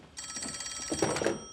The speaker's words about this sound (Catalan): Torna a la cuina i despenja l'auricular del telèfon de paret.